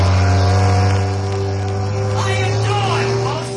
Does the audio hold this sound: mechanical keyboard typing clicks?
no